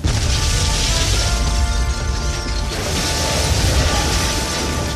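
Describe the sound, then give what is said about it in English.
A loud cannon explosion, caused when the cannon's battery emptied into its focus chamber and overloaded it, bursting across a wheelhouse, sustains a heavy roaring rumble, with a metallic ringing drone through the first half, then a noisier crackling rumble that carries to the end. “the cannon's battery emptied into its focus chamber, overloading it. It exploded across the wheelhouse, killing the soldier.”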